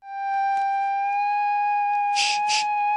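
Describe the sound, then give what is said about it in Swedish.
A simple bagpipe drones steadily on a few sustained reedy tones, with brief louder squawky bursts near the end; no one speaks. “Det är en enkel säckpipa.”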